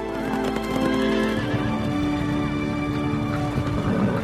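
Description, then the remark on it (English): Horses whinny and neigh over a steady clip-clop of hooves as two riders on fresh horses ride side by side back to a match, the sounds fairly loud throughout, with no one speaking. “They return to the match, riding side by side on fresh horses.”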